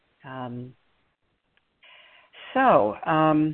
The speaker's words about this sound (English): Now, I just got a little beep on my phone, which could mean that my headset is running out of juice.